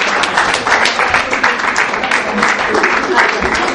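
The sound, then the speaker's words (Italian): Sustained audience applause, a dense steady wash of many hands clapping at an even, loud level throughout, with no pauses or build-up. “Facciamo un ultimo applauso, grazie alla presenza contana.”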